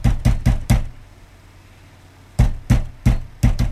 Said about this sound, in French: Qui c'est le bourrin qui défonce la porte? Allez voir, s'il vous plaît.